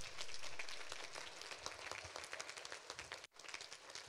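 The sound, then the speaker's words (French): A church audience applauding after a prayer ending in amen, a dense steady wash of many hands clapping together, with a brief dip near the end before the clapping resumes. “Amen, amen, on peut applaudir.”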